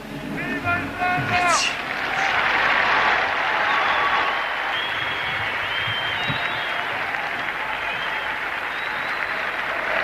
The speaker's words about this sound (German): Tosender Applaus für den Papst auch heute wieder.